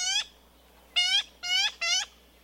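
Yellow-billed magpie calls: four loud, harsh, buzzy notes, one on its own, then a brief pause and three more in quick, even succession, with no talking.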